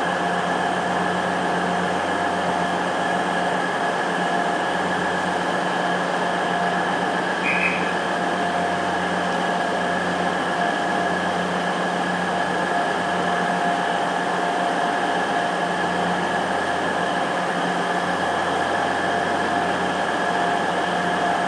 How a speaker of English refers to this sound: The trouble is, when the train's so loud, you can't really hear much unless it's right nearby.